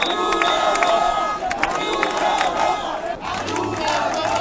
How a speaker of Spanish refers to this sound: con cánticos de forma de insultos hacia Pedro Sánchez o gritos de viva Ceuta, viva España, repetidos además por momentos